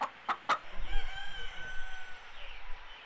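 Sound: rooster crowing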